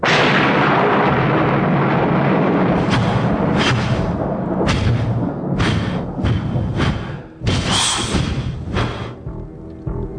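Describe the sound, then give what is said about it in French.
A loud, sustained thunderclap: a heavy low rumble rolling for about ten seconds, broken by several sharp cracking bursts in its second half, with no voices. “Un coup de tonnerre.”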